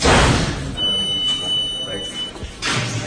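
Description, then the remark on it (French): Heavy prison doors, unit gates and stairwell doors in the youth detention section of the Bois d'Arcy jail, clank shut with a loud metallic bang at the start and another at the end, a thin high electronic whine ringing out in between. “Et toute la journée, il y a ce bruit-là. Des portes toujours. Qui font clic-clac.”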